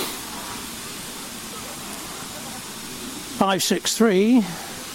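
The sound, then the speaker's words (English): A steady, broad rush of water pours heavily from a big water column into the metal tender of Victorian steam locomotive 563 at Swanage, a fireman on the tender supervising the water pipe. It is continuous, with a man's voice briefly speaking over it near the end. “Well, now the 563 locomotive, the Victorian locomotive of the Swanage Railway, is also now having a drink of water from the big water column here at Swanage.”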